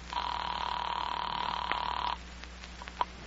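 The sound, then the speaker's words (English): A telephone line ringing, one steady electronic tone lasting about two seconds before cutting off, followed by a few faint clicks as the call is picked up by the Homicide Squad. No one speaks. “Oh, telephone. Oh, if it only works. It does. There's a dial tone.”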